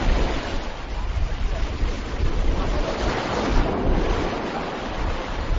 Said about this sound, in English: The gentle waves roll onto the beach as a different group of scuba divers slowly walks ashore.